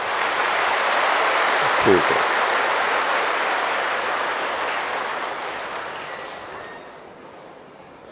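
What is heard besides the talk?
audience applause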